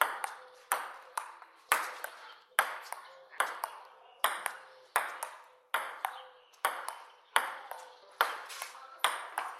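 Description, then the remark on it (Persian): A ping-pong ball is knocked back and forth by paddles, with sharp, bright clicks landing in a steady, quick rhythm. Each crisp hit rings briefly before the next. “صدای توپ خوردن در راکت.”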